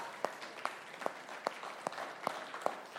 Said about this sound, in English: Y'all clap for her. Just to embarrass her. There you go.